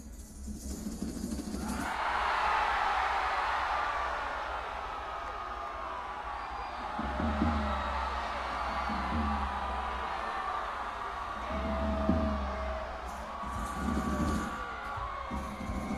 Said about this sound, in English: So when you see that, you'll know to scream like you're being swallowed by a whale. Let's give it a practice run, just once. We'll just give you one chance, ….